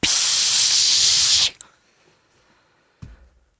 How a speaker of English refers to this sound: super soaker. Remember those? When I was a kid, yeah, these big, big old thing of water in there, just pump it up and just...